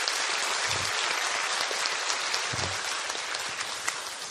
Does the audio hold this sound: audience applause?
yes